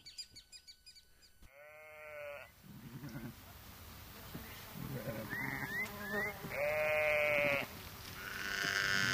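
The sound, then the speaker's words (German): Several sheep bleat in turn as they leave their pasture in autumn, with loud, wavering calls rising over a low rustling outdoor background. Some bleats overlap, suggesting a small flock. “Im Herbst verlassen die Schafe ihren Weideplatz.”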